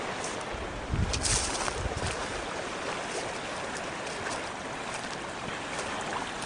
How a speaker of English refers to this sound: And the creek or the river babbles right along.